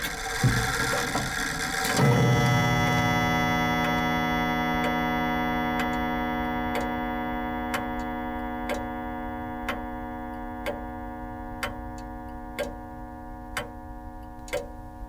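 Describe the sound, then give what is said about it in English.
A clock ticks steadily, about once per second, each tick a crisp click over a sustained humming drone, following a brief louder rush of sound at the start. “But all the same, at night, rang out, tick-tock, tick-tock.”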